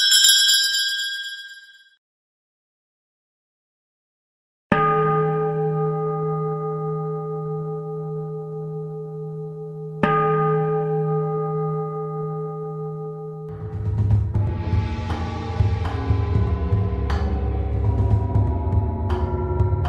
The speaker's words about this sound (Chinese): 我这个有个很难找得到的电子风铃， OK? 你只要入住电他的，他就不断地跟你拎。